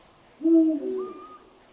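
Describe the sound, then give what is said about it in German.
A single deep, resonant Eurasian eagle-owl hoot, about three-quarters of a second long and slightly falling in pitch, from an owl perched on the bare branches of a tree at night, stands out clearly against a quiet background with no voices. “Mit seinen noch in weiter Entfernung hörbaren, klangvollen und beharrlichen Rufen scheint er den Mond anzusingen.”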